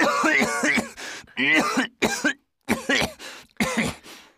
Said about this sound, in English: But that's a terrible cough.